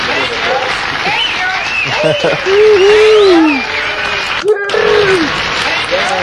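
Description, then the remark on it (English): Steady applause from the audience in the Summer of Sonic 2010 convention stage audio fills the whole recording, a dense, even clatter of clapping, while a voice speaks over it and briefly cuts out near the end. “Applause, I think, in there, yeah.”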